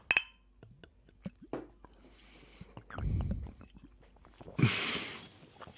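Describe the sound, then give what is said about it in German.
A bright clink of glasses touching together in a toast at the start, with a brief ringing tone, followed by soft handling noises, quiet sips of lemonade and rustling. “Prost. Prost.”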